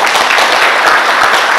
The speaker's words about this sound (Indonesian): Tepuk tangan kita.